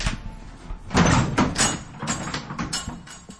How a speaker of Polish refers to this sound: I dzisiaj będziemy tajemnicę tego kościoła odkrywać, to przechodzimy przez ciężkie kościelne drzwi.